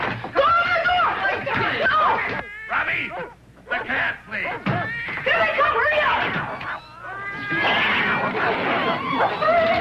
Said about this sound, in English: The trouble is, those cats are all the way up the stairs where he can smell them. I'll tell you what. You hold Tramp, and I'll try to chase the cats away from the door.